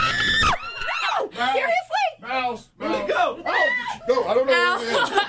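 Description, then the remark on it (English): A person in a studio screams in high, shrill bursts after seeing a mouse, with excited overlapping voices and nervous laughter mixed in, all loud. “… screaming mouse, and … and … and I are the only ones still in the studio.”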